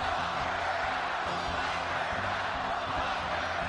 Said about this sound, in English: It's a scene we haven't witnessed in months, a large indoor gathering with thousands of supporters cheering President Trump, a campaign relaunch one Republican strategist said was much needed after a brutal few months.